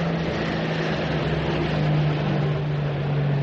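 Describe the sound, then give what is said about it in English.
A steady, low drone of a four-engined aircraft, either a Sunderland or a Focke-Wulf, hums constant in pitch and loudness throughout, with a smooth rumbling wash of noise and no voices. “Four engines. That's either a Sunderland or a Fokker Wolf nosing about.”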